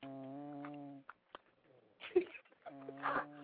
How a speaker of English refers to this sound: Damn, that nigga snoring hard as shit.